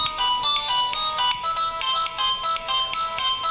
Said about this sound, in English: Is that his ringtone? That is possibly Raul's his ringtone.